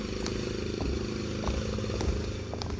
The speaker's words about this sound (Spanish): Además del ruido de la podadora, trae puestos los audífonos y de seguro a todo volumen como es su costumbrota.